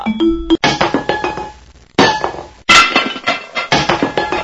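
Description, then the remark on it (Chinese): Metal cooking pots clank and rattle against each other in three busy bursts of rapid, uneven knocks, each hit leaving a bright metallic ring. The clattering is loud, with no voices. “啊，可爱的巴依老爷，我的锅子坏了，我想来向您借口锅子。”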